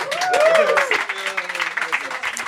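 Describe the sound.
An audience bursts into steady applause for a band about to play at L'écho du One at the One's Pub in Nîmes, a dense crackle of many hands clapping, with voices cheering and whooping over it. It starts loud and stays fairly even throughout.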